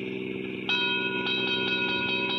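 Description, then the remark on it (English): A train rolls past a small junction just across the border into Oklahoma on a dry, airless day: a steady droning hum layered with sustained whistle-like tones, and a rhythmic clacking of wheels that starts abruptly and keeps an even beat. “I stopped a car at a sleepy little junction just across the border into Oklahoma to let a train pass by.”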